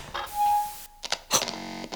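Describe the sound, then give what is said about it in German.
A ceiling fluorescent neon tube light flickers on: a faint electrical whine, a few sharp clicks and stutters, then a steady buzzing hum as the light stays lit. No one speaks. “Das Neonlicht geht an.”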